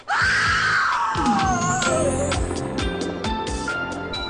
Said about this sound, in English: sorry for that scream to anyone that listens to Dune Reads Goosebumps while sleeping like I do